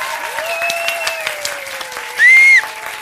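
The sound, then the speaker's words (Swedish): An audience applauds to vote for the woman in the green blanket to win a goodie bag, a steady, dense patter of claps for about three seconds, with a high whistle cutting through near the end. “Ni som tycker att kvinnan med grön filt ska vinna, applådera nu.”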